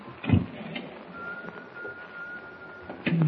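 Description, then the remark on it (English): A thin, steady whistle from an unseen whistler aboard a ship holds one eerie note for a couple of seconds, fairly faint beneath a dull, rumbling background broken by a few soft thumps. “I gotta pull myself together and follow that whistle.”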